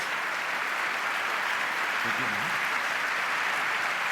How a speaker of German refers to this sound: THS, Linus, euer Applaus.